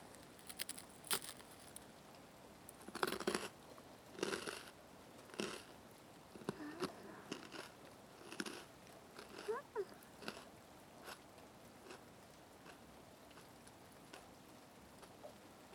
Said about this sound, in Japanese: おせんべいに羊羹、緑茶に合いそうなものを用意しておいたからね。私もおせんべいいただくね。